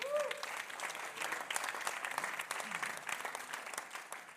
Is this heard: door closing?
no